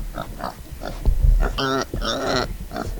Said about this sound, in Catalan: Ah, un porc. Correcte.